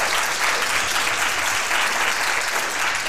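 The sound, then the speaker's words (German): A large conference audience in a well-filled meeting room at the Jahresupdate 2024 in Fulda, Germany, applauds steadily, a dense, continuous wash of clapping that stays loud and even throughout, with no voices rising above it. “hätte auch nicht gedacht, dass das Publikum so eskaliert.”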